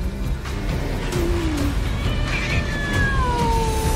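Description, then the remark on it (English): A hairless cat in a video game trailer meows, with a short low cry followed by longer, drawn-out wails sliding downward in pitch, heard over a steady rumbling background like a running engine. “The hairless cat is going to do something mean.”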